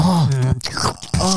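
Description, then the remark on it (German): Someone imitates wet lip smacking and chewing with their mouth, mixed with low groaning voiced tones, in two short bursts separated by a brief pause. “Okay, dann machst du dieses Ohr und ich mach dieses Schmatzen, okay?”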